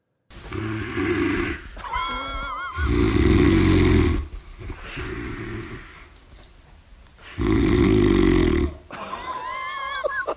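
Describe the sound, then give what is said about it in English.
A man snores loudly in bed, with two heavy, rasping inhales separated by quieter wheezing, whistling breaths in a slow, repeating rhythm. “God, it's just a little snore.”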